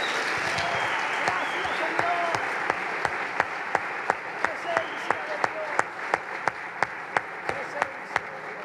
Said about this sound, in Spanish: Le damos un aplauso al Señor de gratitud por su palabra.